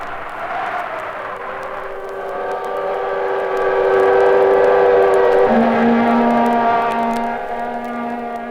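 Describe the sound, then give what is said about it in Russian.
Long, loud steam locomotive whistles sound in a sustained chord, swelling in the middle before the pitch suddenly drops lower and keeps droning to the end, with no one speaking. “слышится генералу Коблову стон вьюги, гудки паровозов и шаг, кричащих, как от боли”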